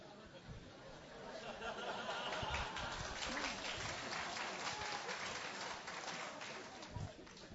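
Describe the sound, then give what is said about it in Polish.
A crowd applauds steadily for several seconds, a dense wash of many hands clapping at once with some murmuring voices mixed in, sustained without a clear break. “A nie wiem czemu te brawa, co, bohater jestem czy co?”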